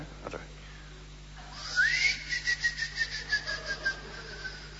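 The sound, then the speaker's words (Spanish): A cricket chirps in a steady run of about nine short, evenly spaced pulses, moderately loud, with a thin whistle-like tone sliding underneath and no one talking. “Está el insecto, ¿lo escuché? Sí. Está el insecto.”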